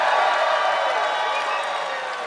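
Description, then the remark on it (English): A crowd cheers and whoops in a loud, dense wash of voices that holds steady for a couple of seconds before tapering slightly, with a hint of clapping mixed in. “First, we'll do cheer for great boss, bad person.”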